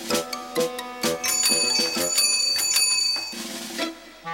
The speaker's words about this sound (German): Eine Fahrradklingel? Das muss sich Kalli Krebs genauer angucken.